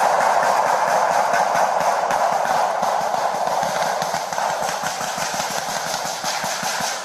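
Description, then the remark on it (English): A long, loud barrage of dozens of rapid gunshots, sharp cracks fired in quick succession with barely a pause, continuing steadily throughout with no voices, heard by police officers on patrol. “Officers appear to be confused until they figure out it's not target practice and gunfire is close by.”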